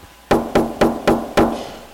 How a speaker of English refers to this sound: Have you ever gone to a door and knocked and you know somebody's in there and they don't listen? They just ignore you. They don't open the door.